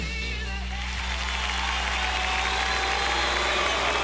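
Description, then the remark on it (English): A steady wash of applause, dense and even for the full few seconds, with faint humming tones running underneath and no clear voices. “Applause for me. No, it's not for me.”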